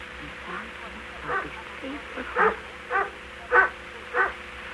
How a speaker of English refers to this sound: Dog.